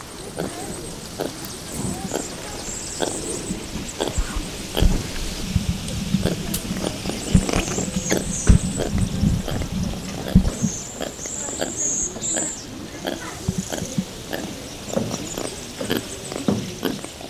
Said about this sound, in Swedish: Men ofta så var det ju så att man hörde lemurerna först. Vi kan väl lyssna på hur de låter, de här rödhettade brun lemurerna.